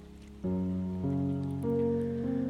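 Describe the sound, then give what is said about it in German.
A steady hiss of rain falling in the background, soft and continuous, beneath slow, sustained musical chords that shift every half second or so. No one speaks. “Und vielleicht lenkst du deine Aufmerksamkeit jetzt auf den Regen im Hintergrund und lass dir von diesem Regen einfach all das wegspülen.”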